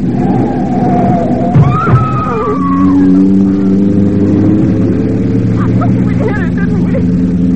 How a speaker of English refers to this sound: Daisy, please don't drive so fast. The powerful car.